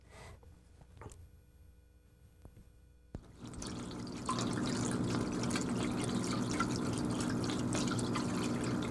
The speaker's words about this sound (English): I have a fountain that runs water, and fountains, you know, through evaporation run out of water.